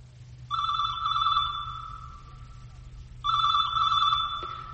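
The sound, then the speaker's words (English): A telephone rings twice, each ring a steady, bright electronic trill lasting a couple of seconds, with a pause between them and a low hum underneath. No one speaks. “ask not for whom the phone rings. Answer it and find out.”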